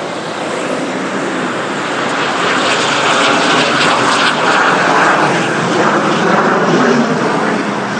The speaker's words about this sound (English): Another fighter jet.